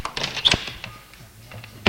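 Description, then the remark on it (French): A front door is opened by a mother letting her son in after he rings the bell: a few sharp latch clicks and a dull thunk, a brief quiet shuffle, then a final louder click at the end. No one speaks. “Sa mère lui ouvre.”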